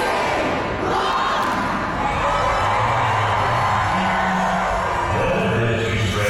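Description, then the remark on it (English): A large crowd of Harry Potter fans cheers and shouts at King's Cross Station in London on September 1st after counting down to 11 a.m., a loud, steady roar of many overlapping voices that holds for several seconds without letting up. “A bunch of Harry Potter fans from all over the world go to King's Cross Station and they count down until 11 a.m.”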